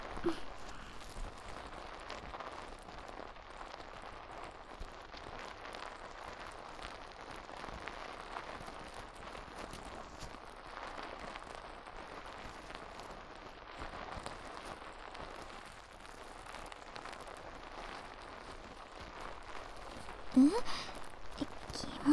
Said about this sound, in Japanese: 泡が耳元でシュワシュワする音、お好きですか？癖になりますよね、この音。